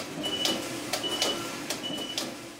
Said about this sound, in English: That alarm we hear is telling you that the knitting is ready.